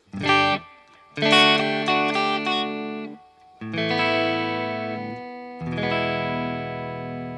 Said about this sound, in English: nice bit of sound there. And you can change, obviously, on the guitar if you wanted to. I'm playing a Strat at the moment. So that's your clean and easy.